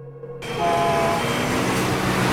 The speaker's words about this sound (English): Now in the city. An upset Emma is walking along a bustling street. Someone bumps into her accidentally.